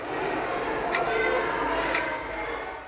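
A wall clock at a primary school in Białystok, Poland, one of 21 synchronized clocks placed in its rooms and corridors, ticks steadily once per second, three crisp ticks standing out above a constant murmur of room noise.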